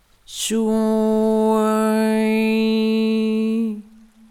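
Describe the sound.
A single steady, nasal-sounding vowel is sung on one low pitch for about three seconds, clear, with the tongue raised toward the palate so the vowel resonates in the nasal cavity, a rich buzz of overtones before it cuts off. It is the sound of water energy. No talking alongside it.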